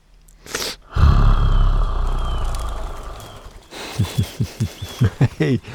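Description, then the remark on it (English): A wolf lets out a loud, deep roar that rumbles for a few seconds, then breaks into a quick series of short, rhythmic growling huffs. “There are wolves out here, you know.”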